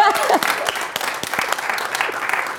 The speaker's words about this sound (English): Give him another hand. Only one person? Clap, everybody.